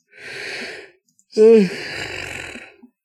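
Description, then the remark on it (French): A long, breathy yawn: a drawn-in breath, then a voiced, falling groan that trails off into a slow, airy exhale. “pardon, j'ai baillé.”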